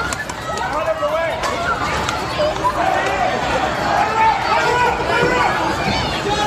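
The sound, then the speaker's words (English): Crowd commotion as people react to a loose longhorn steer, recorded on a phone: many overlapping voices chatter and call out at once, steady and fairly loud, with scattered movement noises underneath and no single voice standing clear. “This is one that got loose, and just listen to somebody recording on their phone.”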